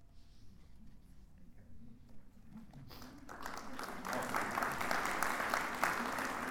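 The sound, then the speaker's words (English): An audience breaks into applause after a few quiet seconds of low murmur, the dense clapping swelling steadily louder and holding strong to the end. “Please don't clap. Just wait until the end.”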